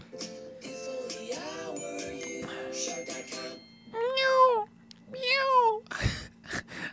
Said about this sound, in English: What the fuck was that? What was that? It's doing like a cat, like a kitten, like we have, like having a mascot.